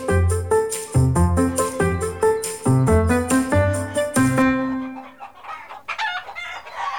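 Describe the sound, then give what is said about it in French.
Hens in a henhouse at egg-laying time cluck in quick, rhythmic bursts of short, tonal calls for several seconds, then the sound loosens into a busier, scratchier flock chatter, with no one talking. “Au poulailler, c'est l'heure de la ponte.”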